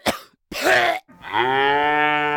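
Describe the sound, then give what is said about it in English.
A cow lets out a long, low, drawn-out moo, preceded by two short rough breathy bursts; fairly loud, with no one talking. “Bird goes tweet and mouse goes squeak. Cow goes...”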